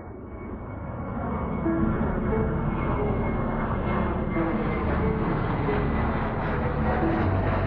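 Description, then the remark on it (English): A steady, loud airplane engine drone of a plane flying to Foros, Crimea, fills the whole stretch, swelling slightly in the first second and then holding a continuous roar with no voices. “There are three planes now racing to Foro's Crimea.”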